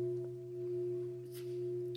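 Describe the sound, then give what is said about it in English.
A meditation bell rings on in a long, steady sustain, its low humming tones holding evenly with no new strike. Nobody speaks, and a faint brief rustle passes partway through. “Can you understand me while still hearing the bell?”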